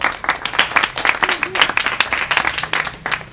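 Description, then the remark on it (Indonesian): An audience applauds, many hands clapping in a dense, steady patter of sharp crisp claps that holds at a fairly even loudness throughout. “Oh, tepuk tangan dulu buat Flex.”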